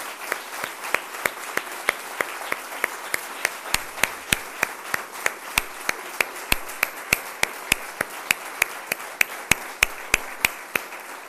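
Those present in the Parliament of the Canary Islands applaud steadily for about eleven seconds in homage to the late José Miguel González, a dense wash of clapping with sharper individual claps popping out at a quick, fairly even pace. No one speaks.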